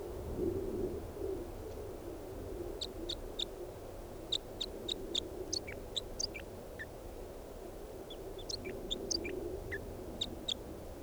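A songbird, bird 395, sings bursts of short, high-pitched chirps and trills, repeated in quick clusters over a steady low background rumble, with no voices.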